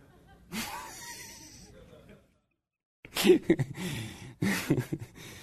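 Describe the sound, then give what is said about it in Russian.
A church audience breathes in unison: one long, airy breath, a brief silence, then two loud rounds of rushing, breathy exhales with some murmuring voices mixed in. “Церковь, дышим.”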